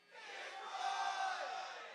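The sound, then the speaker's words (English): On a count of one, two, three, a crowd screams together as loud as it can in one loud, sustained roar that swells quickly, holds steady for about two seconds, and trails off slightly, with no individual voices standing out. “So on 1, 2, 3, I want everybody to scream as loud as they can.”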